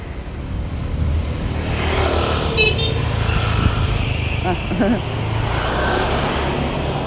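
car horn honking

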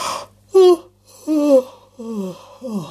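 yawn

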